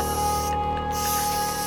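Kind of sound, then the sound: tool, aerosol spray can spraying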